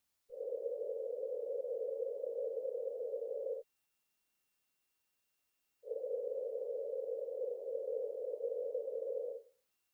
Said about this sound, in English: For example, a band of noise centered on 500 Hz has a wavelength about 4 times the diameter of your head. Thus, the sound will be almost as loud at your right ear as the closer left ear, because of the diffraction of sound around your head.